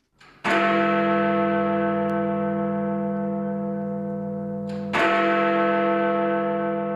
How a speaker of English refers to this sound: Resonant and reassuring, the great bell has rung out from the clock tower at the north end of the Houses of Parliament since 1859. But the old clock is in urgent need of repair and renovation.